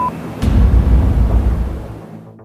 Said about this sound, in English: There's 75 men around our building and they're shooting at us. Tell them there are children and women in here and to call it off. Hello? I hear gunfire.